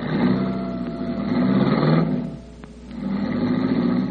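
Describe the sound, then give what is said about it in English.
A car engine runs loud, rising in a rev, easing off briefly, then roaring up again with a steady throaty rumble. No one speaks. “He helped her into the car and fumbled with the keys until he was sure Red and Shorty had reached the other car”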